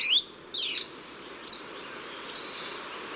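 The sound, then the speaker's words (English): A saberwing hummingbird calls with a few sharp, high-pitched chirps and quick sweeping notes, spaced irregularly over a faint hiss of background noise, with no voices. “Biologists are now trying to understand the size and location of the saberwing's remaining populations.”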